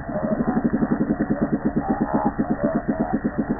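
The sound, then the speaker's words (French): Underwater calls of a small Ophidion cusk-eel fish: a steady train of rapid, low knocking pulses that merge into a buzzing, engine-like drone, continuous and fairly loud, with no voices. “Et lui, il fait ce bruit, il est tout petit, mais il fait ce bruit.”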